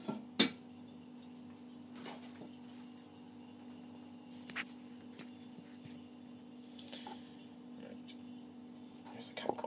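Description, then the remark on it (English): A light plastic cup clacks down onto the middle of a plate, followed by a couple of softer knocks and clinks over a steady low hum, as a setup for popping corn under a microwave cover. “and then the way I'm going to do this is stand the cup, plastic cup, in the middle of a plate, and then I have a microwave cover that I can put over the top of that to capture any corns that wish to escape.”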